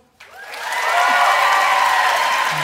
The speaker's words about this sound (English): All right, so now you guys are just going to vote based on applause. Here we go.